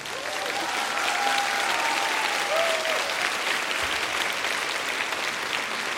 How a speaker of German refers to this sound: Das ist dein Applaus. Dankeschön.